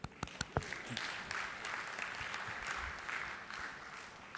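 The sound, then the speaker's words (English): An audience at a technical presentation breaks into applause after a demo that shrinks a virtual disk back to its original 10 GB size, a dense, steady patter of many hands clapping, starting with a few sharp individual claps and continuing at an even level for several seconds. “This would be a good time to applaud.”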